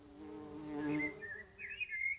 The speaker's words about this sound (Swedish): Hör du ljudet av en humla?